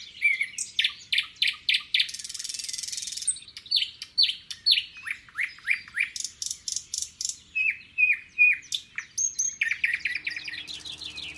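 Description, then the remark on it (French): Birds on a farm sing continuously in a bright, busy chorus of rapid repeated chirps and trills, fairly loud, with no voices present. “Oh, les oiseaux chantent aujourd'hui.”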